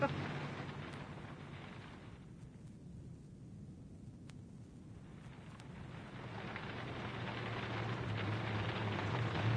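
Heavy rain from a thunderstorm with lightning pours on a car on a road in a steady, dense hiss over a deep low rumble, thinning briefly in the middle before swelling back louder toward the end.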